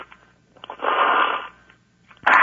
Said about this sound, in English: What about you were slurping your coffee, huh? Yeah, I was.